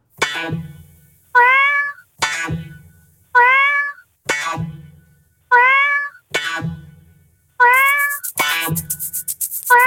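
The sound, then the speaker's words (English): A remix built from cat meows: loud meows repeat in a steady rhythmic pattern over a thumping low beat, ending with a bright hissing burst layered on top. “So it's the … cat remix.”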